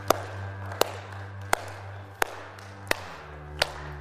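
Slow, steady claps from a church audience land in unison about once every beat, six sharp hits in all, ringing out over a low, constant background hum with no talking.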